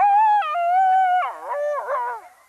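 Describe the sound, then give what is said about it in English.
A coyote gives a long, clear howl that holds steady before breaking into wavering, yipping warbles, loud with no other sounds around it. “Now, tracks are great, but at the end of the day, literally, what most of us come into contact with is that special coyote howl.”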